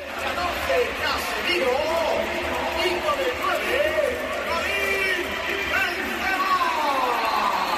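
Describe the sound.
The crowd at the Bernabéu stadium applauds Karim Benzema leaving the pitch in a 74th-minute substitution as Gareth Bale comes on: a steady, dense roar of clapping and cheering that lasts the whole stretch, with voices rising and falling over the top.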